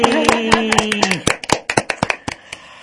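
round of applause

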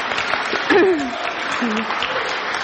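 audience clapping

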